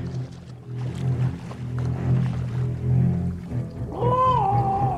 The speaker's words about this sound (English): This one literally has the Jaws soundtrack underneath of it as she sort of destroys Michael J. Fox in this pool setting.